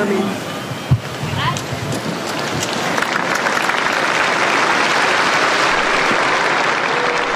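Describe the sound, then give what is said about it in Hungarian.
A large outdoor crowd in St. Peter's Square breaks into its customary applause thanking Pope Francis for his blessing, a sustained dense wash of clapping that quickly swells and holds steady, with faint voices mixed in at the start. “Ma sem maradt el a Szentpéter téren a szokásos taps, amellyel megköszönik Ferenc pápának az áldását, az ő tanítását.”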